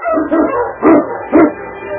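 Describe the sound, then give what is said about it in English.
A pack of sled dogs led by King races over a frozen, snowy trail, barking and yipping excitedly, with two loud barks standing out over a continuous chorus of yelping and whining. No one speaks. “With King in the lead, the dogs raced over the frozen trail, while Sergeant Preston kept his eyes on the tracks in the snow.”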